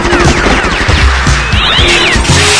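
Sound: kitten meowing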